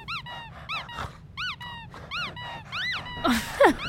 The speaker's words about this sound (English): Ugh, here, Cerus. Want a toy? Good dog, speak.